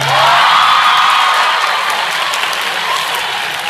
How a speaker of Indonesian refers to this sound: Biasanya orang tepuk tangan biasa.